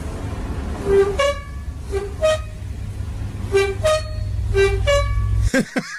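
A squeaky fridge door in a canteen, played for the squeaky door challenge, creaks out a run of high, tonal squeals in short rhythmic pairs, almost like a tune, over a steady low hum, ending with a brief clatter.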